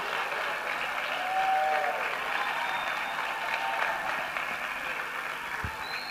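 Sustained applause from a large audience welcoming a speaker in the evening, a dense steady wash of clapping that holds at an even level for several seconds with a faint whistle or two rising above it.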